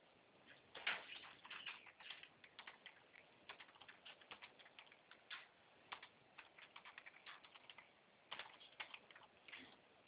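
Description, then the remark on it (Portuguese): Irregular, quick keyboard keystrokes click away in bursts for several seconds, with short pauses between groups of taps, as someone types a six-digit verification code received by SMS into an app; the typing sounds fairly quiet, with no voices. “Você olha lá no seu SMS e digita aí onde vai pedir.”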